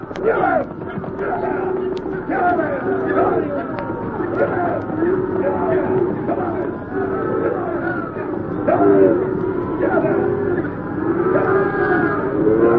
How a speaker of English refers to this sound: Come on, let's get these cows moving. We ain't got any more time than we need. Yeah. Get up there. Get up. Come on, you critters. Get over there. Come on.